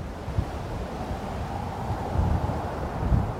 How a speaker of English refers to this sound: Ambience can be anything that ties the player to the location. These are typically sounds like rain, wind, forest rustling, room tone, or anything that establishes the environment.